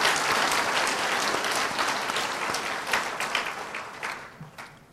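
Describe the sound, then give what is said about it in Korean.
A crowd at a gathering applauds for the people taking part online, with dense, steady clapping that fills the whole stretch, loud at first and gradually thinning and fading toward the end, with no talking over it. “여러분들처럼 민첩하지 못하셔서 신청을 늦게 하셔서 이 시간에 인터넷으로 이 집회에 참여하고 계실 그분들을 위해서도 우리 박수 한번 쳐드립니다.”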